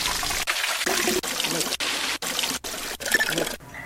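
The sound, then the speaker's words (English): A steady trickle and splash of fountain water, bright and hissy, with brief dips and breaks every half second or so, with no one talking. “Loot water fountain. Loot water fountain 1.”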